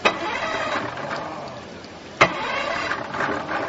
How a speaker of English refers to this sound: It takes a few tries, but the motor finally catches again.